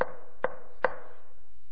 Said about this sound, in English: And yet, the friend keeps knocking.